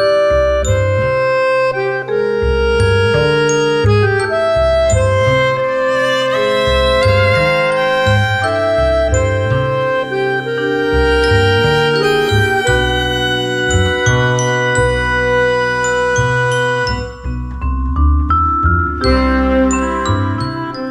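An instrumental music break interlude on the Stage and Studio show, with bright, chiming bell-like melodies over a steady, pulsing bass line, playing loud and continuous throughout with no voices.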